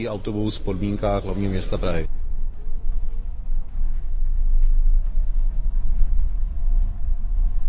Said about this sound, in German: Tatsächlich gleiten die Busse nahezu geräuschlos durch die Gassen. Das Fahrgeräusch auf dem Kropfsteinpflaster ist bei weitem lauter als das leise Summen des Motors.